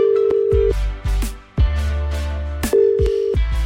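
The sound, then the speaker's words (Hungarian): A telephone ringback tone purrs in short steady bursts while a call from the Petőfi Rádió request show waits to connect, heard over a low, thumping backing beat with no one speaking. “Felhívom őt, és átadom neki a te személyes üzeneted.”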